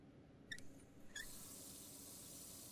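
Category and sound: household object, running water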